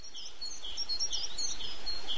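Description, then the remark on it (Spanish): Several birds chirp and tweet in quick, overlapping bursts, high and bright, over a steady outdoor hiss, in the tree across the way, heard through an opened window on a sunny morning; no voices present. “Abro la ventana y oigo el piar de los pájaros en el árbol de enfrente.”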